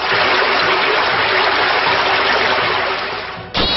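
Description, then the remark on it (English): A loud, continuous gushing rush of water blasts for over three seconds, briefly fading before a sharp burst at the end: a video game water attack effect as Hydric uses the move Drench. “Hydric used drench.”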